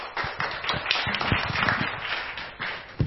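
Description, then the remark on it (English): A conference audience breaks into a round of applause for a University of Limpopo speaker at a track-two session on making better campus content. Dense overlapping claps form a steady, moderately loud patter that holds evenly for about three seconds. “could we please give him a good round of applause.”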